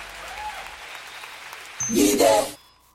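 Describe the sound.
After a quiet stretch, a loud burst of audience applause breaks out with some cheering voices mixed in, lasting under a second before cutting off abruptly.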